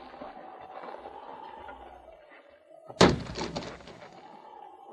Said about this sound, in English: With two blows, the sergeant broke the lock on the bunkhouse door.